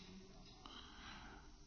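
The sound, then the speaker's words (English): A single drawn-out yawn, a breathy, airy exhale lasting under two seconds, fairly quiet, with no talking over it. “Pardon my yawn.”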